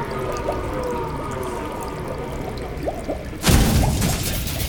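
A steady mechanical hum with faint creaks and clicks in an engine room, then water suddenly gushes in loudly through a leak near the end, a rushing flood that drowns out the background.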